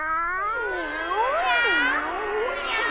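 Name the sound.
cat meowing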